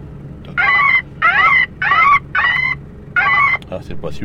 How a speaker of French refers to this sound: Ça, c'était la mouette. Non, goéland, pardon. La goéland, c'était. Putain, ce boîtier commence à être fatigué.